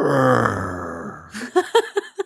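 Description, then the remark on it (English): A person imitates the sad groan their five-year-old dog Bueller makes when petted while lying down: a long, low, drawn-out moan that trails off, followed by five short, choppy vocal bursts in quick rhythm. “My dog has started doing this thing. Like when he's laying down and I pet him, he goes.”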